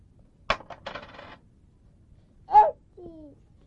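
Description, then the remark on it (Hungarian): Coins drop into a drawer with a sharp clack and a short burst of metallic jingling and rattling, then settle. A young child briefly babbles and coos afterward. “Nem, a pénzt oda ne dugd be, a pénzt az ide kell a fiókba, jó?”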